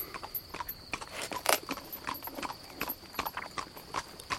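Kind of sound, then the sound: animal, horse hooves clip-clopping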